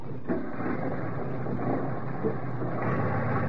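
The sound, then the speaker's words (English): A four-wheel drive truck drives along with a steady, continuous engine rumble and road noise, fairly loud, with no talking. “This truck of mine is a four-wheel drive vehicle, and I know the valley like the back of my hand.”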